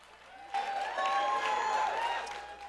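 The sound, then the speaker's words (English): Audience applause starts abruptly and holds steady for a couple of seconds, a dense wash of clapping with raised voices mixed in, tapering slightly at the end. “I didn't think that was applause worthy, but apparently”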